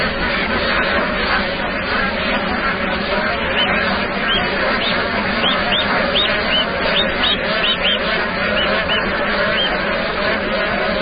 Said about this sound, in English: Having spent the winter south of the Himalayas, bar-headed geese make the hazardous mountain crossing each spring to breed on the plateau's lakes.